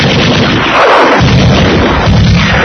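A loud, dense burst of machine gun fire from an enemy tank on a battlefield rattles on continuously for a few seconds, harsh, with no voices.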